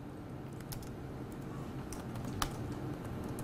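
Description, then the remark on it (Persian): Quiet, irregular computer keyboard clicks tapping away over a steady low background hum, with one slightly sharper keystroke standing out near the end, as a value is typed in for an input variable while writing a simple program function. “حالا ای ما مساویه با اینپوت یه مقداریه، این مقدار رو من وارد میکنم، مقدار ای امون ذخیره شد.”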